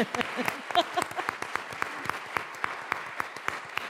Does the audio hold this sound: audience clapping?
yes